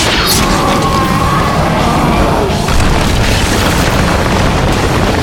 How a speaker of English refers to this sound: Then it slammed down into the sand, disappearing within seconds beneath the surface, sending out clouds of dust in all directions from the explosive blast of its descent.